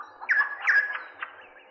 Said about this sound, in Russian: Прислушайте, какой разноголосый гомон слышится в лесу. Все птицы поют, кричат и щебечут одновременно. Такой шум бывает только на рассвете.